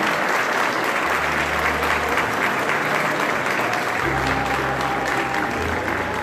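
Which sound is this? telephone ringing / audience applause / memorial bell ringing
audience applause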